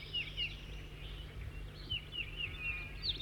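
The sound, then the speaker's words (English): A bird sings a series of thin, high chirps and trills over a steady low hum of background noise, with no one speaking. “The new bird is 206 or 207, I'm not sure.”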